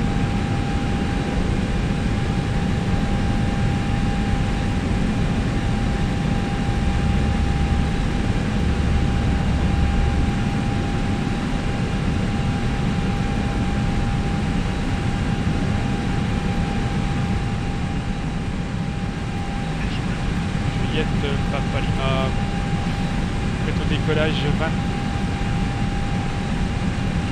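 A light airplane's engine roars steadily throughout as it takes off from runway 20, with wind 5 knots from 220: a dense rumbling drone with a sustained mid-pitched whine and a few faint high clicks toward the end.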